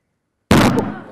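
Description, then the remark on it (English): A balloon filled with equal amounts of hydrogen and oxygen explodes with a single sharp, loud bang after a moment of silence, followed by a brief rumbling decay, with no talking. “These ones are going to go more with a bang, so if you don't like bangs, do put your fingers in your ears.”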